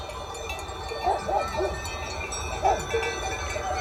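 Several cowbells on a herd of russet cows clank irregularly, their low, hollow tones overlapping in loose clusters over a steady outdoor background hiss.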